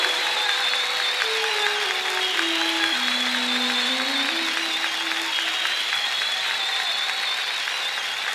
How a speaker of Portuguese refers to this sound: Dê uma forte salva de palmas para Ele nessa noite.